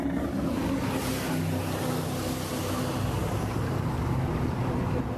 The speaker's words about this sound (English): And that's the really recognizable sound, the roar of those jet boats.